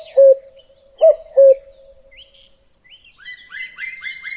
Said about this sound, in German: Mitten im Wald, im Reichswald. Hört ihr das auch? Das ist ein Waldkauz. Und ein Kuckuck.